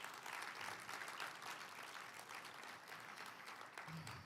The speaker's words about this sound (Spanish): Denle un aplauso a Cristo por eso.